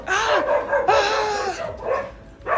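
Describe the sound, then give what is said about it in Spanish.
Dogs bark in a loud, drawn-out series of yelping barks, four bursts in quick succession with brief gaps between them. “Pinches perros, guau, guau, guau, guau, guau, guau, guau.”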